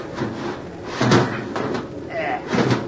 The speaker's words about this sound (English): We'd open the watertight door to the next compartment aft. Flood this one and use the number 4 companionway through the next compartment. Okay, if we don't drown doing it. Here, give me a hand with this watertight door.